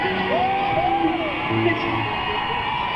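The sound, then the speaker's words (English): A crowd roars with a dense wash of screams and shouts, and a single high whoop rises and falls above the din near the start. The noise stays loud and continuous throughout. “All right, y'all can scream whenever you want.”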